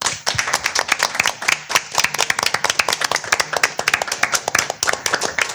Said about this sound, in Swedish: Tack så jättemycket. Och med de orden så avslutar vi. En varm applåd till vår panel.